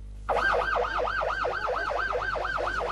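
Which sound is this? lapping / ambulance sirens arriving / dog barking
ambulance sirens arriving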